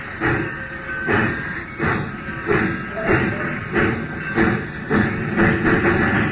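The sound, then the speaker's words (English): A steam locomotive chugs along rail tracks near a platform in steady, rhythmic bursts of hissing steam, about two per second, loud, with a continuous rumbling clatter underneath. “Now when that engine turns back, move fast. Head for that platform.”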